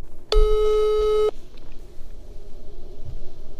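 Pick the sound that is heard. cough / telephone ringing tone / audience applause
telephone ringing tone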